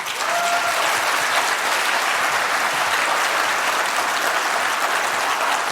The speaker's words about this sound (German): freue mich über einen großen Applaus und ganz viel Spaß.